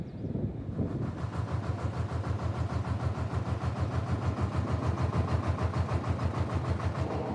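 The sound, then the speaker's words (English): A river barge ferry's diesel engine on the Oxus river chugs steadily, a loud, even rhythmic throb that swells in after a brief moment and keeps running without any voices. “Well, barges like this have been going up and down the Oxus for a long time.”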